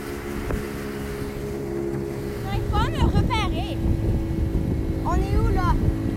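A motorboat's engine drones steadily as it moves across floodwater, a constant low hum with rushing wind and water noise, while brief high chirping calls break through twice.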